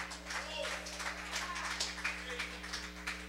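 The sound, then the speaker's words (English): An audience claps their hands in a dense, continuous patter of overlapping claps, moderately loud and steady throughout, over a low electrical hum. “When I clap my hands, I'm not just doing it because everybody else is and someone started the applause.”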